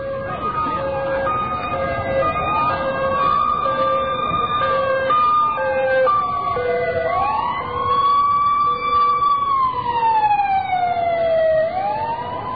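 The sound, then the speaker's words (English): Sirens of three police cars wail loudly as they pass, several overlapping rising-and-falling tones sweeping continuously over a steady rumble of street noise. “Three police cars just went by, and that's about it.”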